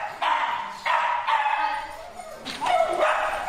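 A dog barks in a series of five or six loud, slightly whiny barks at an uneven pace, with no one talking.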